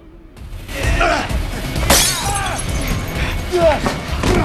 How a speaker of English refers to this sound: Zep cracks a vase over Tap's head, then snatches the gun